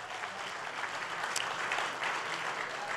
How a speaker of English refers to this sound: We are so grateful for the freedom that we have here in this country. So, yes, you can applaud that.